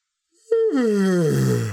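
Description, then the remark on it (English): A voice imitates a long, leisurely yawn: one loud, drawn-out voiced breath that starts higher and slides steadily downward, turning breathy and airy as it trails off. “After a few minutes, Gawain could see that there was no way out of this, so he pretended to wake up, yawning leisurely.”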